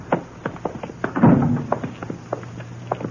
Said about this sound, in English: Footsteps sound kind of loud this time of night.